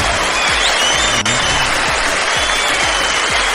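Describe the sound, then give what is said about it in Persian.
Steady, dense applause from an audience at an evening contest, greeting the first-place winner with 50 points, fills the whole stretch, many hands clapping loudly and continuously with a few faint cheers mixed in. “به دست، تشویق، دست دست دست، ماشاءالله، به به.”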